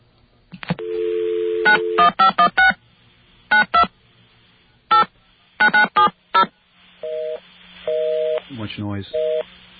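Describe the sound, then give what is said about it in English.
A dial tone gives way to a rapid run of touch-tone beeps punching in a number, followed by a few ringing tones, all over a constant hiss of line static. “Well, let me try another number and see if that fares any better.”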